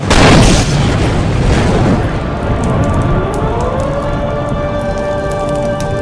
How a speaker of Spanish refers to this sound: Pero eso no fue lo peor, porque 2:15 después de la explosión inicial, tuvo lugar otra mucho más grande.